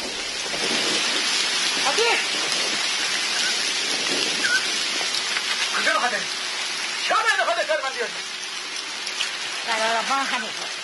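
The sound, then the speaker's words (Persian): Heavy rain pours down during a sudden storm with wind, black clouds covering the forest and mountains, in a steady, dense hiss that fills the whole clip, with faint voices murmuring now and then beneath the downpour. “باران شدیدی میباره.”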